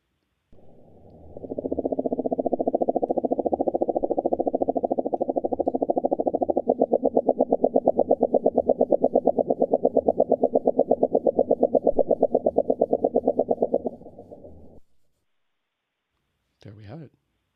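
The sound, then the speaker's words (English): Two mink frogs give low, knocking calls, one fast steady thumping joined by a second, their pulses entraining into a slower shared rhythm for about thirteen seconds, loud. “You hear basically one thumping fast and then all of a sudden another one comes in and they both slow down.”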